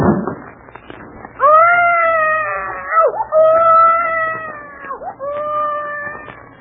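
One of several babies, said to have colic or something, wails in three long, drawn-out cries, each high and strained with a brief dip in pitch between them, loud and continuous with no talking.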